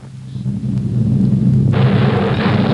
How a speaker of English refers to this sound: It is the thunder from the Nile.